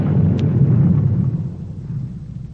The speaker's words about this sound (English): A band of men burrowing toward shore in an unfinished waterworks tunnel beneath Lake Erie plunged shovels through soft clay into a gas pocket, setting off an explosion.